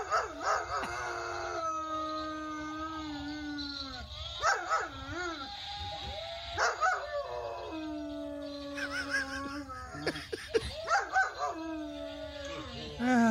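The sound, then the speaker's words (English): A real dog howls and barks insistently at a robotic mechanical dog, long wavering howls broken by sharp yips and barks, loud, with a low background rumble throughout. “That now has a robotic mechanical dog that's now been constructed, and which is fine as far as it goes until it runs into a real dog, and this ensues.”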